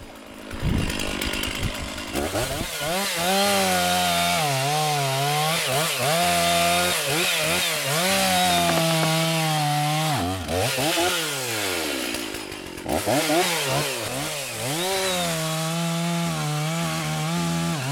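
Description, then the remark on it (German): Two men with two saws cut wood from bark-beetle-infested trees, a loud, continuous engine-like drone whose pitch repeatedly rises and dips as the blades bite in, without talking. “Und da können wir jetzt ordentlich uns austoben und mal ein bisschen Holz sägen.”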